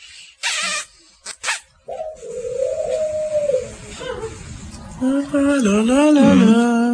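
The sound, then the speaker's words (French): A pet bird addressed as Coco and Jaco, kept in a large cage with a mirror, gives a few short, harsh bursts, then whistles in long wavering tones, holding one pitch before a second whistle that bends up and down. “Allez, d'accord, siffle, Coco.”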